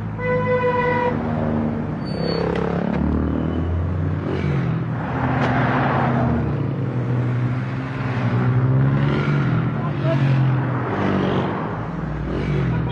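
car driving

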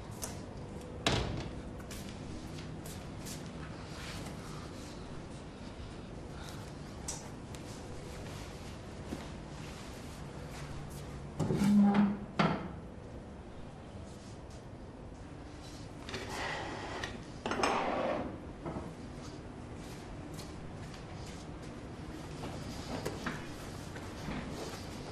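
door being opened

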